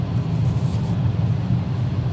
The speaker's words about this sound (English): Is that better? I think this car is a lot louder than the vintage Acura. I hear air coming in somewhere.